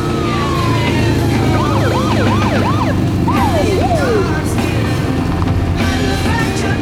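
A police car siren whoops in quick rising and falling sweeps, loud, over a steady rumble of traffic on a suburban street; the wail breaks off partway through while the engine noise carries on.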